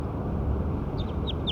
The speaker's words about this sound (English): So recording Bird 6 again.